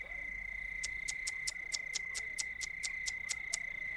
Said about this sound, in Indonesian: Cicak itu terus bersuara sambil bergerak perlahan-lahan. Ekornya bergerak pula seperti seekor ikan yang sedang berenang.